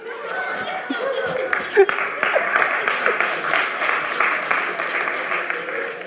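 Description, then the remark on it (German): A crowd applauds steadily for several seconds, a dense wash of many hands clapping with some laughter and murmuring voices mixed in, fairly loud throughout. “Der Applaus gilt für dich, Schatz.”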